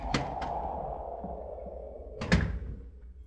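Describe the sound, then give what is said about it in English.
A side door leading out across a porch opens with a pair of sharp latch clicks, then after a pause swings shut with a heavier thud and rattle, over a low steady hum with no one speaking. “Oh, you can go out that side door across the porch.”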